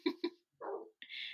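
A dog gives two sharp, quick barks, followed by a rougher, drawn-out yelp and a brief hissing noise, with no one talking.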